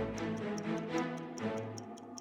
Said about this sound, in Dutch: Nog 7 tellen en dan zijn we voor altijd stil. De seconden tikken weg.